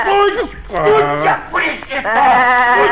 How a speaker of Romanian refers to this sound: Ce-i cu capra asta blestemată care îmi jumulește trandafirii?